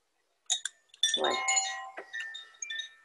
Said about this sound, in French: Ah, il y a mon carillon qui est bloqué. Alors, le fil du carillon.